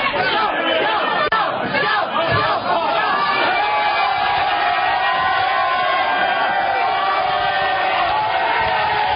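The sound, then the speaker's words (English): A rowdy university crowd cheers and shouts continuously in a Sydney pub as Prime Minister Tony Abbott downs a beer in one go, many voices chattering and whooping together at a steady loud level for the whole stretch. “Tony Abbott succumbs to the pressure of a rowdy university crowd.”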